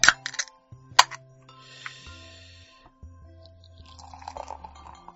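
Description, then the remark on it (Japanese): Two sharp metallic clicks, then a steady fizzing rush as beer is poured into a glass in a single pour, moderately loud, settling into faint bubbling and small clinks over a low background hum. “ついいつも通り2、3度継ぎをしそうになったけど、とりあえず1度継ぎで。”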